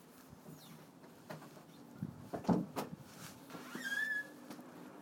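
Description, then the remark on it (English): A door thuds shut, followed by a few sharp metallic clicks as it is locked with a key, with a faint bird chirp afterward. “Are you locking the door?”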